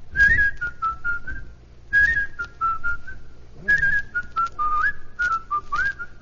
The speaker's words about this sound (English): You're walking along, and you see a chap with big ears, and he's whistling like this. Tell me the name of the picture.